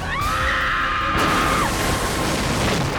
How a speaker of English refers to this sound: The noise was unmistakable. A woman's scream coming from the tiny farming village at the base of the hill.